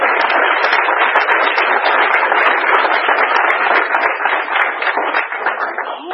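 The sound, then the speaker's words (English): A group gives a man another round of applause, many hands clapping loudly in a dense patter that holds for several seconds and eases slightly at the end, with no one speaking. “All right, let's give him another round of applause.”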